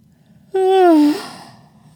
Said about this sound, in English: She yawns again and stretches with it.